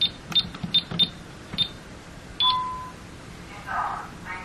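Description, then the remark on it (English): A second security alarm keypad beeps as the alarm system is disarmed from it: a run of short, high key-press chirps, then a longer steady confirmation tone, with faint handling clicks around them. “So we're going to disarm the system from the other keypad now. You'll notice the beeps are a little different also.”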